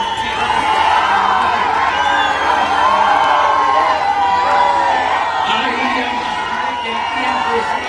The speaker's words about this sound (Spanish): Buen abucheo, ¿eh?